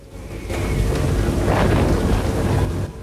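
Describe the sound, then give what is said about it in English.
A deep, rolling rumble of thunder during a lightning storm at night swells after a brief quiet and sustains loudly for a few seconds, with a broad roar, fading slightly at the end. “Lightning flashes, illuminating her naked back.”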